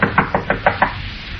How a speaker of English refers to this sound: Rap on the door, Olson. Okay.